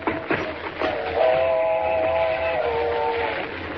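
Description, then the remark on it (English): An approaching train rumbles steadily, and a long, loud multi-tone whistle blows for about two seconds over the noise of the rails before fading back into the rumble. “Mr. Kent, there she comes. Thank heavens we're near the tracks.”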